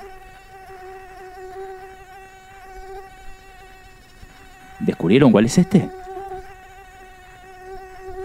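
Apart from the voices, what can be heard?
mosquito buzzing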